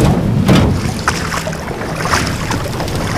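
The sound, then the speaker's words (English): Peter steps over the side of a boat onto the water in a retelling of the Bible story: a few soft knocks and splashy transients sit over a steady wash of wind and lapping water, with no voices. “Peter summoned up some courage and faith, and stepped over the side of the boat.”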